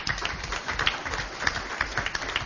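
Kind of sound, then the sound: crowd, round of applause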